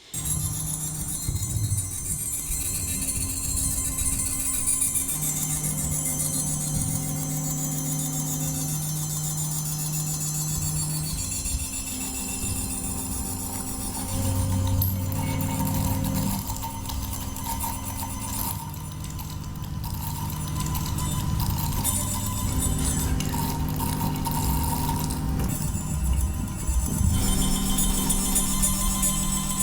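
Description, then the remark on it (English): A fluidic shift register using salt water, memorizing one bit of information at a time and making a sound each time a bit is memorized: small ticking, glassy clinks at intervals over a steady, layered tonal hum. Nobody speaks. “And it makes a sound each time a bit is memorized.”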